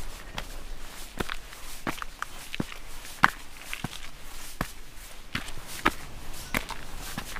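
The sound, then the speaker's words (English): Steady footsteps crunch along a path as a person climbs back up out of a New Zealand forest toward the footpath along the road, at an even walking pace. Each step is a short, crisp scuff, with a faint outdoor hiss in between and no talking. “So it's time for me to go back and outside this forest, so I'm climbing back up and I'll be back on the footpath along the road.”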